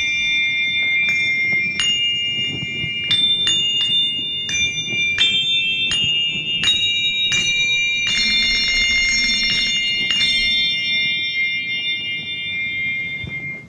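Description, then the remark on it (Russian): Eight small bells ring out in a quick, irregular sequence of strikes, their bright tones overlapping and lingering, with a swell of denser ringing near the end over a low background rumble. “И всего тут 8 маленьких колокольчиков, да, но меня всего, так сказать, это...”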